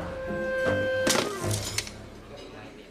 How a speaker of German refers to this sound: Ich stehe am Flughafen, checke meine Mail und lasse mein Trinkpad fallen.